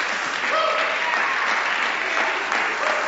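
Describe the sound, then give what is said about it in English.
An audience claps steadily in sustained applause, a dense, even patter of many hands filling the space without pause, fairly loud and with no voices standing out. “Can I get a round of applause, please”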